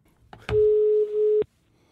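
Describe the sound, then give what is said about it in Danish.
A telephone ringback tone sounds once before the call is answered: a click, then a single steady electronic beep lasting about a second, clear, with no voices. “Vi har noget smidt over telefonen.”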